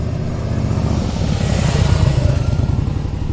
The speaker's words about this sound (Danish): Det var en etsporet motoriseret køretøj, der inden for historievidenskaben nok betragtes som den første motorcykel.